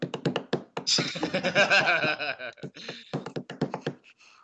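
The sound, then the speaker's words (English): A man bangs on a door with drumsticks: rapid, sharp wooden bangs rattle out in quick irregular bursts. They pause briefly while a loud, voice-like swell fills the middle, then the hard knocking resumes. “Oh, he's now pulled out some drumsticks. What is he going to do? What is he going to do? He bangs on the door.”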